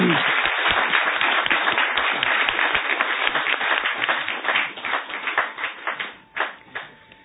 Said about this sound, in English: Ladies and gentlemen, the ambassador deserves another round of applause.